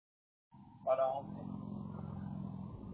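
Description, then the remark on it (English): A steady, low car engine drone starts after a brief silence and hums on evenly while the car sits idling in traffic, with a short brighter burst near the start and a faint voice-like murmur. “I'm sitting in traffic, so.”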